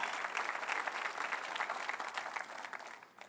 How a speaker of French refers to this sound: Une bonne main d'applaudissement pour un Dieu d'abondance.